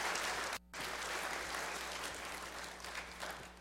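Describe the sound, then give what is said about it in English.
An audience gives a round of applause for a model who demonstrated pieces of armor, clapping steadily in a sustained burst, dense and fairly loud, with a brief dip early on before the clapping continues and slowly tapers. “Let's give our model a round of applause.”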